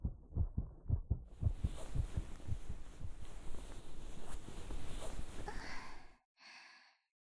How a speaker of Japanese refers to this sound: 聞こえますか？私の鼓動。お兄さんと一緒です。